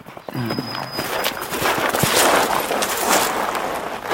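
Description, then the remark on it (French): A pig's hooves trot along in a quick, steady clatter of taps, fairly clear, continuing for a few seconds with no talking over it. “Henri, mon cochon, apporte-moi mes pantoufles.”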